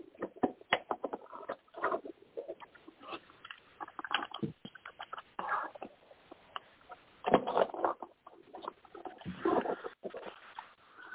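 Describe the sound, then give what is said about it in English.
Tarot cards being shuffled for a reading, a continuous run of quick papery flicks and riffling patters with brief pauses and bursts, moderately quiet, with no voices. “I'm just going to shuffle the cards.”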